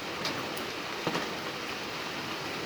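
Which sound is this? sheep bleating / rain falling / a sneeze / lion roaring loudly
rain falling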